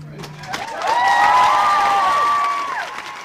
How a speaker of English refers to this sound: The Courtyard Cafe was wall-to-wall with people erupting in applause as Obama took the oath of office